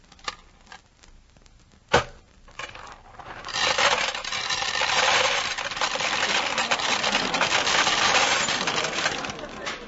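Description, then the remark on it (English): Several sharp metallic clinks of two pennies dropping into a peanut vending machine, one louder than the rest, followed by a steady rattling, whirring clatter of the mechanism that continues to the end. “Two pennies, two peanuts. This machine must be... Excuse me, bud, can I get at that peanut machine?”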